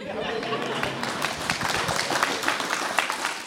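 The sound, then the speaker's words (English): An audience applauds steadily, a dense crackle of many hands clapping at once that stays fairly even in loudness for a few seconds, with no voices standing out. “Can we do that again and you'll all applaud?”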